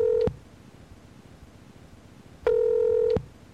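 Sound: telephone dialing and ringing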